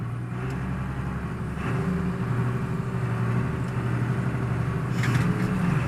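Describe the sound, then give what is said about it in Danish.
A tractor taking a run-up toward a slurry tanker drones with a deep, steady rumble, then revs harder, growing louder and climbing slightly in pitch as it is given full throttle. No voices are heard. “Og jeg kan se, at han begynder at give gas. Og så får den bare fuld gas.”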